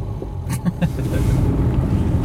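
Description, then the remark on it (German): Steady low rumble of road noise inside a car moving at walking pace, with a few brief thumps and rattles near the start before the drone settles. “Und um dem Motto aber treu zu bleiben unseres Podcasts, was so ein bisschen zum Leid der anderen Verkehrsteilnehmerinnen und Verkehrsteilnehmer ist, wir fahren Schritttempo.”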